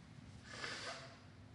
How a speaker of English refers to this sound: So this, I need to blow my nose.